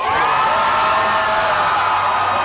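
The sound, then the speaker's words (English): A large crowd in Tel Aviv cheers and whoops, celebrating the release of hostages, a loud, sustained wash of overlapping voices with shouts and high yells rising above it, continuous throughout with no pauses. “Crowds gathered in Tel Aviv to celebrate the release of more hostages.”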